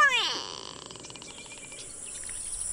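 A gray go-away bird gives a loud, nasal "noo-wee" call that swoops downward, then trails into a fainter buzzy, rapidly pulsing note, with no voices.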